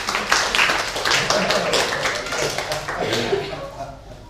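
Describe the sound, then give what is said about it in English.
A round of applause: many hands clapping in a dense, steady patter for about four seconds, moderately loud, easing off slightly toward the end. “Round of applause, maybe.”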